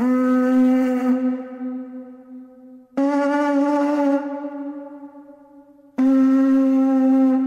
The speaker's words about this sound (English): The fact that that's an 18,000-year-old horn and he managed to get a bit of reverb.